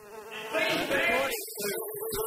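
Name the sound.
bees buzzing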